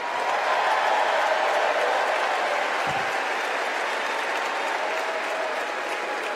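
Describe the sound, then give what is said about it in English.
A large convention crowd at the DNC in the United Center applauds after Senate Majority Leader Chuck Schumer's speech, a sustained, dense wash of clapping, steady and loud throughout, with the roar of a big audience and no one speaking over it. “That was Senate Majority Leader Chuck Schumer addressing the crowd at the DNC right here at the United Center.”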